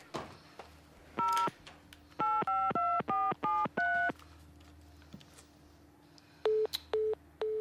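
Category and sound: signal or alarm, telephone keypad dialing tones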